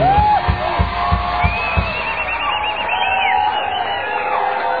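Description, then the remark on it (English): A large concert crowd screams and cheers continuously, with high whoops and shrieks rising over a dense roar, plus a few low thumps near the start. “Hey, I wouldn't scream so loud.”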